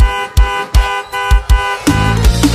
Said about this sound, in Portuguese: Só saio da frente desse portão com a polícia, eu algemado. Ou se ela vir me dar um beijo e falar que eu tô perdoado. Se ela não vir eu continuo buzinando.